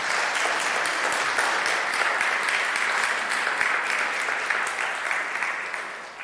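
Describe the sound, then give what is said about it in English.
A crowd applauds steadily, a dense, bright patter of many hands clapping that stays loud throughout and eases slightly at the very end, with no talking over it. “Will you give him a round of applause?”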